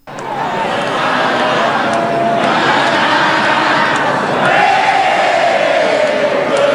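A large crowd yells and shouts together in a sustained, loud roar of many voices, swelling slightly louder toward the end with some raised, chant-like tones.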